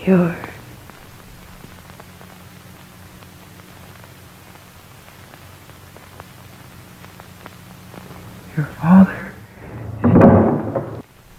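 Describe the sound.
Constant tape-like hiss with a steady low electrical hum running throughout, added to make a film sound like an old, worn 1970s movie; brief muffled voices surface at the start and again near the end.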